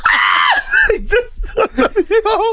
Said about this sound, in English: Grown ass man. Oh, bro, he slid all the way to camera. I can't tell if it's a man or woman. That's how high the scream is.